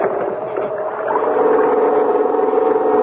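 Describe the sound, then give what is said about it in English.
A small pull-start generator, started with a long, hard pull on its starting rope to power a searchlight, catches and rises into a steady, buzzing drone, growing louder after the first second and then holding an even, constant hum with no voices. “we had everything connected and the generator ready to go. Give the starting rope a long, hard pull”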